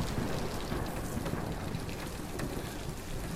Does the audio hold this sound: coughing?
no